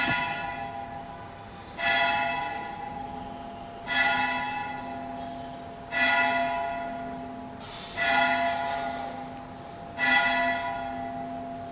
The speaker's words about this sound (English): I'm going to wait for the bell to finish. I get earaches from that thing.